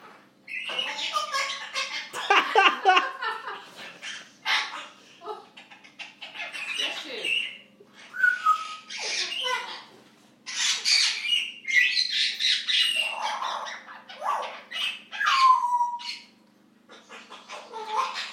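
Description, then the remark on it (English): A bird calls and squawks loudly in a rapid, busy stream of harsh, varied notes, broken by a few short pauses and occasional sharp whistled tones. “What a bird.”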